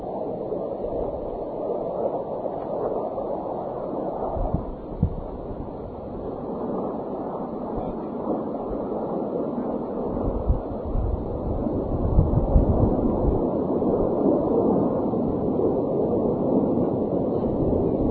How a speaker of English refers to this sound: Sorry, I hear airplanes. I hear airplanes. Here they come. All right. Whole bunch of them.